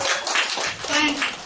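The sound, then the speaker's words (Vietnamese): An audience breaks into a round of applause for a participant invited to answer a question about the Buddha's birth: a dense, steady patter of many hands clapping at moderate loudness for a second or so, with a few voices mixed faintly underneath. “Rồi cho một tràng pháo tay.”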